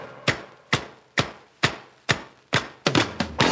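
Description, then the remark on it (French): Hammer blows crack against stone as convicts break rocks in time to a disco tempo, in a steady, even beat of six sharp hard strikes, then a quicker flurry of four at the end. No voices. “Depuis qu'on a trouvé le disco, on casse les cailloux dans le tempo. En avant les marteaux.”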